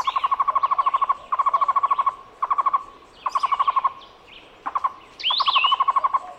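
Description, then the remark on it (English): A Cuban trogon (tocororo), a medium-sized bird, sings a series of rolling, stuttering phrases of rapid repeated notes, each burst lasting under a second with short gaps, clear, with a faint extra chirp near the end. “The Cuban trogon is a medium-sized bird often found in pairs. Its song sounds like its Spanish name, tocororo.”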